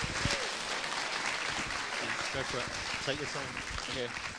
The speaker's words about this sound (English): why don't you give him a round of applause as he comes, encourage him.